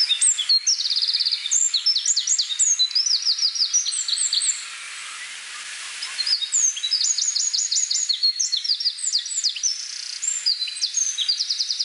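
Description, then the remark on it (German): A male songbird sings its spring song: bright, rapid warbling phrases with fast trills and tumbling notes, repeated in bursts, pausing briefly midway before the lively song resumes. No one speaks. “Die Stimme ist sehr hell, überschlägt sich oft und hat so einen schmetternden Teil.”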